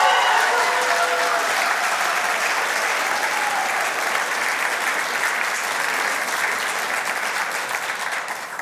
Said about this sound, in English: If you're a guest with us, I don't normally get applause, so I'll receive it with thanks.